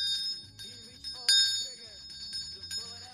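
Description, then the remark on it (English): A hand bell rings repeatedly in quick, bright jangles with sharp high tones, moderately loud, with a soft murmur of voices underneath; it is rung for a donor during a fundraiser for the Salvation Army. “We're trying to raise some money for the Salvation Army, and I want to ring the bell for the most important donor that we've had to date.”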